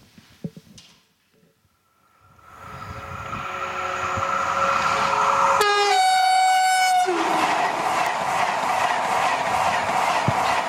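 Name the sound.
train passing with horn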